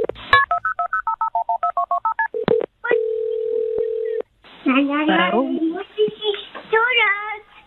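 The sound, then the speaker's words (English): A rapid string of about a dozen short keypad dialing beeps as a toddler in Oklahoma calls 911 on an old cell phone, followed by a steady line tone, then a voice begins speaking. “And finally, an Oklahoma toddler called 911 with a report of emergency donuts, and local police sprang into action to deliver.”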